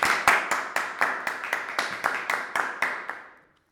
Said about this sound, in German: Dafür erstmal ein fetter Applaus.